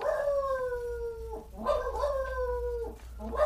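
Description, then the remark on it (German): A dog gives long, drawn-out howling barks, two sustained wavering calls in a row with a short break, loud, then a third starting, with no talking. “Der bellt doch immer gleich, der Hund.”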